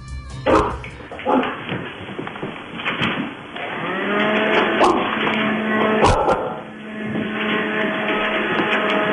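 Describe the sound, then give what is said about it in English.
Bailey, a terrier, barks on a 30-second clock in a few short, sharp bursts, then lets out long, drawn-out moaning tones with a steady droning pitch. The sound is fairly loud and there is no talking. “Let's see how many times Bailey can bark for us.”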